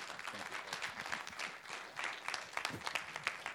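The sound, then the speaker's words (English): An audience applauds to welcome guest speaker Dr. Jaley, a dense crackle of many hands clapping at moderate loudness, with a few sharper claps standing out and faint voices murmuring underneath. “Jaley, if you would come, just give him a welcome. Clap your hands or something.”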